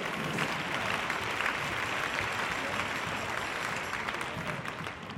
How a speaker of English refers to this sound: Amen. Why don't you give the Lord a hand clap of praise if you're seated.